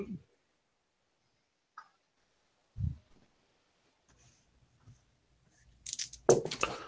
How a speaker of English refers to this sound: Where's my other dice? I got to dump out a whole thing of dice to find it.